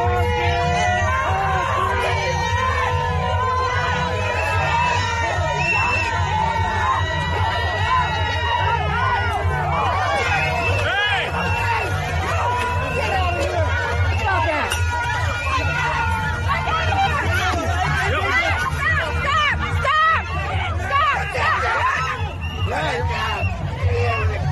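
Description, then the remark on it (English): A large protest crowd shouting and screaming at once, a dense, loud wall of overlapping raised voices with sharp high yells breaking through, sustained without pause for the whole stretch, as a man pulls a gun on the crowd. “Now he pulls a gun on the entire crowd.”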